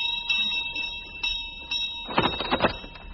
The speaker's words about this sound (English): Go on, knock on the door. But there's no knocker. No knocker? No. Then send for a radio critic. Oh, shut up. Shut up, Conscience. I'll ring the bell.